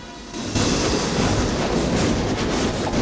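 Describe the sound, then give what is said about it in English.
A steam train rumbles along steadily, yellow smoke pumping from its funnel, a loud continuous roar of churning low noise and hissing, swelling after a brief quieter start, with no voices. “Doc's hair and coat flap around him as he reaches the front of the train.”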